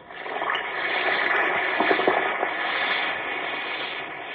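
An Alka-Seltzer antacid tablet fizzes in water, a steady, dense crackling hiss that stays at an even level for about four seconds, with tiny pops scattered through it and no voices.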